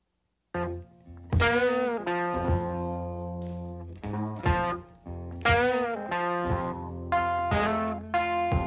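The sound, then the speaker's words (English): An electric blues recording from 1951 opens with loud, gritty, distorted guitar: bent notes that sustain and waver, struck in a slow, uneven phrase over a low, droning bass tone. “But you'll hear, I mean, from here, this is where this is essentially the foundation of modern blues.”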